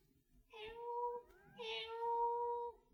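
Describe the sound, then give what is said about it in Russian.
A cat meows twice, asking to be let in: two drawn-out, plaintive calls with a short pause between them, the second longer and more insistent. “к нам кошка просится.”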